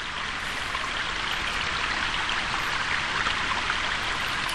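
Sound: flowing river water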